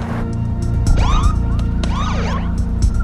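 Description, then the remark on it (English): A police car siren whoops in quick rising and falling sweeps, loud, over a steady low engine rumble, with no voices, as a driver pulls over and the police car stops behind him. “He glances in his rearview mirror and pulls over. A police car stops behind him.”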